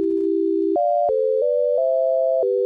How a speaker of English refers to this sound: What if, instead of garbage making music, you make music from garbage? As you spin the hard drives, it produces a sound just as if you would pluck a string.